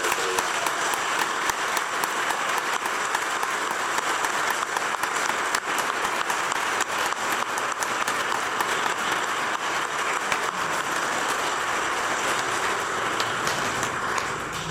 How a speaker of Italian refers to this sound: Un applauso allora.